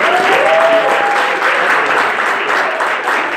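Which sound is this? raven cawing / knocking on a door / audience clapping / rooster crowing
audience clapping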